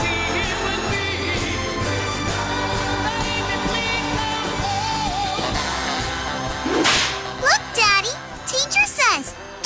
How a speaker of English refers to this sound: A whip cracks, an angel gets his wings.